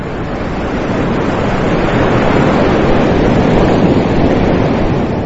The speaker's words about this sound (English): As the ocean roars